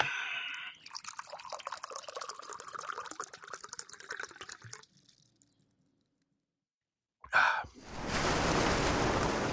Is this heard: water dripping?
yes